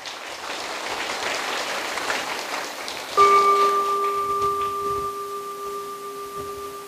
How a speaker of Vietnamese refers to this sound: Nếu các con cam kết với thầy cũng giống như là cam kết với cha mẹ các con, thầy cô giáo của các con và các anh chị đi trước có một cái tấm gương cao quý về việc học, thì các con hãy cho thầy một tràng vỗ tay thật lớn nào.